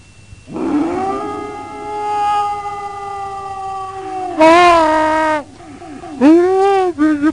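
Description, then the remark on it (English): A dog howls in a long, drawn-out note, then lets out louder, wavering whines and yowls in short bursts, fairly loud, with no talking. “I'm being attacked by a dog.”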